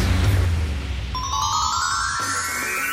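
An electronic telephone ring tone for an incoming call to the Swedish radio show Karlavagnen enters about a third of the way in, a bright sustained tone that climbs steadily in pitch over a low rumbling bed, loud, with no talking.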